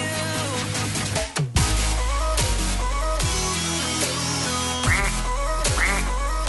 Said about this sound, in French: Alors, le bruit canard, c'est perso.